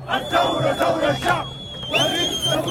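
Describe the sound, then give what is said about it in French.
Hundreds of thousands of protesters shout and chant their rejection of the military still in power on the avenue beside Khartoum airport, in loud, surging bursts, many voices blending into a rough roar with a brief lull before the shouting swells again. “Des centaines de milliers de manifestants dans les rues du pays pour crier leur rejet des militaires toujours au pouvoir.”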